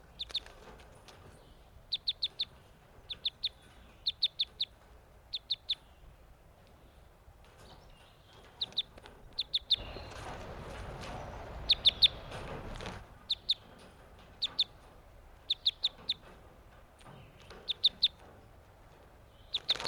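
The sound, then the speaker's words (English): Newly caught captive crossbills, caught on May 31st and including a male whose bill crosses to the left, give repeated sharp, high chip calls in quick clusters of two to four, with a burst of fluttering wingbeats partway through and a low background hiss. “These are the new captives I caught today, May 31st. It looks like the male with the bill that crosses to the...”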